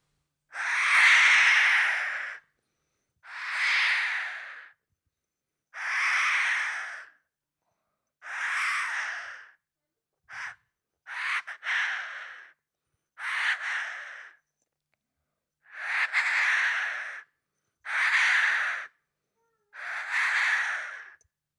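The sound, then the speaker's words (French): A voice imitates a jay, giving about ten harsh, raspy screeches in a steady series, each lasting a second or two with short pauses between, fairly loud. “Là, c'était le G.”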